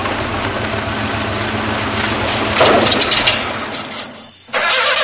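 A car engine cranks over and over without catching, a loud, rough whirring that swells midway, cuts out briefly near the end, then grinds on again.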